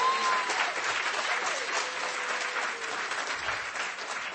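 An audience at a panel applauds the panelists steadily, a dense wash of clapping hands that holds at a fairly even level for several seconds, with a few faint whistles or cheers mixed in.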